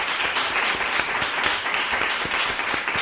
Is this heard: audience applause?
yes